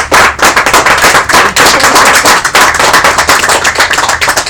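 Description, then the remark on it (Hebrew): A loud, dense burst of applause from many hands, sharp claps blurring into a steady crackling roar that holds its level for several seconds, with no voices over it. “מגיע מחיאות כפיים לצדיקים.”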